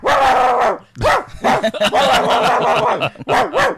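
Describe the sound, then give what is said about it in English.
A dog barks and yips excitedly in a rapid, uneven series of loud, high-pitched bursts with short pauses between, some barks drawn out into whiny howls. “That sounds like my Cody.”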